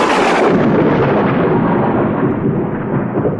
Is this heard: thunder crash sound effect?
yes